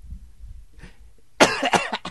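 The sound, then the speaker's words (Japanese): A quiet stretch with faint low rumble, then a loud burst of coughing: one sharp cough followed by a few quicker, rougher coughs trailing off. “いやーこれ本編聞いてる人はなんで咳出てんだって言うけどね、まだ咳出んだね。”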